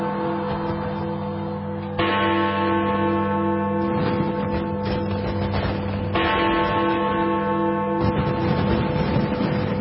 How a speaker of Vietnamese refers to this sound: vì chuông đồng hồ Big Ben theo dự kiến sẽ được khởi động để đánh chuông trong buổi đêm đặc biệt đó. Tiếng chuông đã trở thành di sản văn hóa trong con tim của hàng triệu khán giả quốc tế.